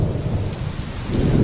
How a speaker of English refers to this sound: A summer storm.